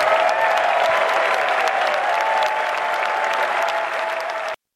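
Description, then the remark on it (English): A large outdoor golf gallery at Augusta National applauds and cheers steadily as Scottie Scheffler wins the 88th Masters, dense clapping with shouts and whistles mixed in, loud and sustained throughout before cutting off abruptly. “Again, Jim Nantz with the call there, letting the crowd do most of the work.”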